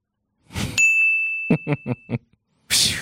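A bright, high electronic ding rings out from a phone notification and lingers for over a second, with four quick buzzing pulses beneath it and brief bursts of rustling noise before and after.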